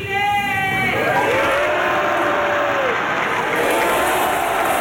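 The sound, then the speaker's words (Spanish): A single loud voice in the gallery shouts "¡Viva Chile!", then the Salón de Honor fills with sustained, dense applause from a big crowd during Chile's presidential change-of-command ceremony, continuing steadily to the end. “Ahora sí, ¡viva Chile!, grita una persona en la grada, que es respondido por todo el Salón de Honor con un aplauso.”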